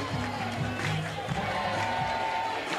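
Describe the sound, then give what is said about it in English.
A ballpark crowd at a game between Alabama and Southeastern cheers and murmurs in a steady, dense roar, calling for Marley Giles to bat, with scattered shouts rising out of the din and a faint tonal hum running underneath. “Well, you heard the crowd. They want some Marley.”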